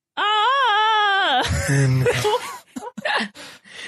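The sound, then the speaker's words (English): A person gives a loud, warbling Tarzan-style yell, a high wavering wail that breaks into a lower rough yodel and trails off in ragged gasps and laughter. “Are you going to give it a Tarzan yell?”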